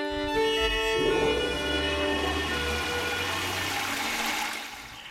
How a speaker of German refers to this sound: Und Wasserfall stimmt in gewisser Weise auch. Das ist nämlich eine Klospülung.